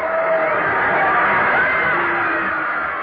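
A large crowd roars steadily at a football game between Newton Center and Riverdale, a dense wash of cheering and shouting voices holding a loud, even level throughout with occasional whoops rising above the din.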